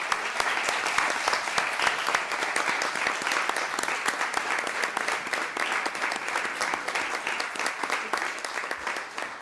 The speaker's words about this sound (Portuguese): Para todos vós, pelo menos da minha parte, uma salva de palmas, não sei se quiserem associar.